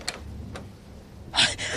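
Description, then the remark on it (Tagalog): A door being opened: two faint clicks, then a louder sliding scrape that carries through to the end, with no voices. “Bakit mo binubuksan ang pinto?”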